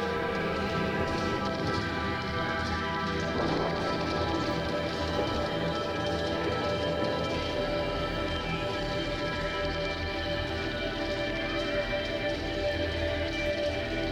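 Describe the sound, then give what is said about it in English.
Heavy rain pours down in a steady, dense wash that never lets up, with sustained low tones humming beneath it and no voices. “The heavy rain is proving to be to our advantage, my lord.”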